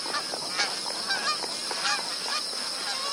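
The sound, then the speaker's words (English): A dense chorus of magpie geese, some two million with their offspring gathered around shrinking waterholes at a billabong, honking in many overlapping calls rising and falling continuously, with no talking. “2 million magpie geese and their offspring are now concentrating around the scatter of shrinking waterholes.”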